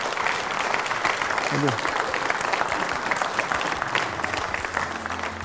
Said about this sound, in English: All right, let's go ahead and give them a round of applause, please.